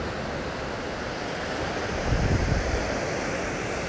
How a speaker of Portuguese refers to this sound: E a onda que quebra também se vai, é devolvida para o mar. Procure então observar que existe um espaço de água que é criado entre uma onda e outra.